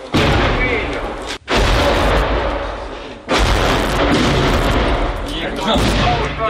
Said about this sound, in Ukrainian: Обстріл наростає, тому залишатись на поверхні стає вкрай небезпечно.